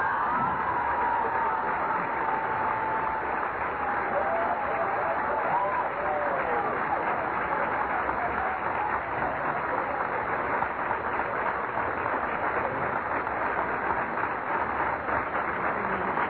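Sustained applause from a large audience for a speech fills the whole stretch, a dense, steady clatter of clapping with some crowd murmur and faint voices mixed in.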